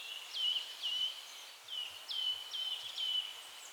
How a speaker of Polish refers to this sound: Kowaliki, które charakterystycznie tak pogwizdują, twitują, można powiedzieć, bo tweet po angielsku to ćwierkać, więc zapewne to słówko mogło się wziąć właśnie od kowalika. Tweet, tweet.